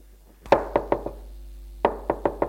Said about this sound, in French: Elle arrive devant la porte et frappe.